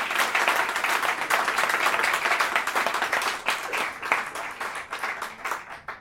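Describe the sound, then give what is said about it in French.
An audience at an event breaks into sustained applause for a guest who came from Morocco specially for the event, dense overlapping claps that stay loud for several seconds before gradually thinning out toward the end. “Voilà, on peut l'applaudir, il est venu spécialement pour cet événement.”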